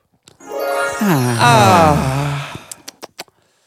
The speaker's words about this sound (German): … atmet schon schwer.